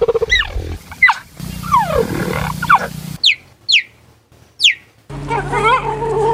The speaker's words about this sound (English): These are happy cheetahs. Like, Ooh. You know, cheetahs, like little Chester cheetah. Yeah, so cute.